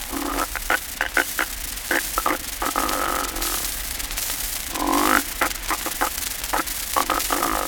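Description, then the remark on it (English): A snore of the type 7 kind, the interrupted inspiration or static lag, with a halting, broken inhalation: a rapid string of short, rasping catches and throaty clicks, with a longer nasal rise midway, stuttering on irregularly without any talking. “Type 7, the interrupted inspiration or static lag.”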